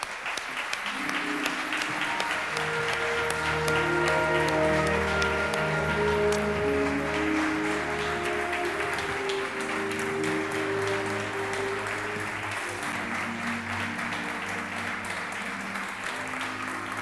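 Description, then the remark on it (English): Sustained audience applause as the speaker's wife is called on stage, many hands clapping steadily for about seventeen seconds, a dense, even roar of claps at a constant loud level with musical tones running underneath. “Give her an applause.”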